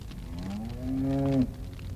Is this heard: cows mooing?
yes